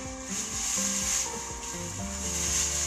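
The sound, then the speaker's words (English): Two plastic garbage bags crinkle and rustle continuously as they are picked up from the ground, a dry, scratchy crackling that holds at a steady, moderate level for about three seconds with no voices. “Picking up the garbage, i.e. two plastic bags on the ground.”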